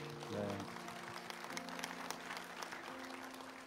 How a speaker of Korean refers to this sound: 네, 우리 하나님께 영광의 박수 올려드리겠습니다.